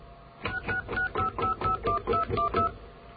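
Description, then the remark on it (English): A quick run of about ten touch-tone dialing beeps as someone dials 666 information on a phone line, each beep short and evenly spaced, clear with no one talking over them. “Well, let's get an operator because let me try calling 666 information, see if that works.”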